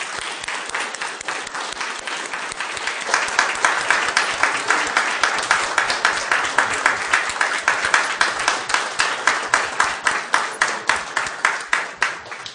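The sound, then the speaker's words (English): A church audience claps together in sustained applause during a morning service to show appreciation for people just prayed for, many hands blending into a dense patter that swells and then settles into fairly steady, rhythmic clapping before fading out. “I think it'd be appropriate to just show our appreciation for them with a clap this morning.”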